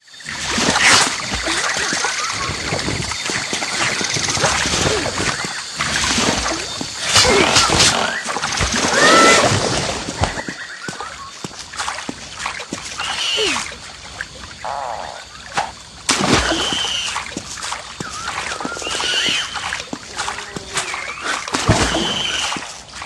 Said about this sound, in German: wenn Andy in der Sumpflandschaft, dem zweiten Spielabschnitt, unterwegs ist und sich an Lianen schwingt und in Wasser watend